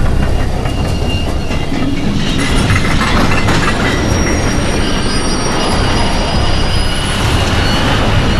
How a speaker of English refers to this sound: At 10:21 p.m, the packed Wellington to Auckland Express, consisting of one engine, nine carriages and two vans, rocketed onto the weakened bridge, travelling at 60 kilometres an hour, or 37 miles per hour.